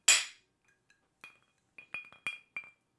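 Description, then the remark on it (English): A giant ice cube clinks against the inside of a glass during a toast, a bright initial clatter followed by several sharp knocks spaced irregularly, fairly loud with no talking. “The clanging of your giant ice cube is so loud.”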